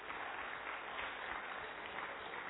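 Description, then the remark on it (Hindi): Steady applause from a class for the players of a balloon game who saved their balloons, a dense wash of many hands clapping at an even level for a few seconds, with no voices standing out. “ना सिर्फ अपना बलून सेव किया लेकिन हमें जीवन की एक बहुत ब्यूटीफुल लेसन इन सभी प्लेयर्स ने दे दी, और इसके लिए उनके लिए जोरदार तालियां बजाएं.”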